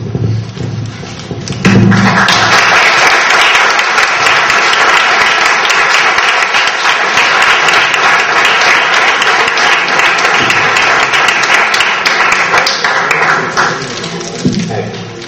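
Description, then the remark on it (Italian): Spontaneous audience applause in a hall at a professor's lecture breaks out suddenly and holds as a loud, dense wash of many hands clapping for about twelve seconds before tapering off, with a voice briefly heard before and after. “Sono contento che sia partito così spontaneamente l'applauso, perché evidentemente si sente anche una certa tensione in sala, che è tipico delle conferenze, delle lezioni del professore.”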